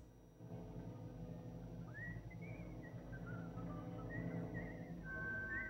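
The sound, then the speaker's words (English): A person whistles a soft, wandering tune, fairly faint, in a wooded area, drifting over a steady low rumbling background with no talking. “Following the sound of whistling through a wooded area, he comes across another airman who's talking to himself.”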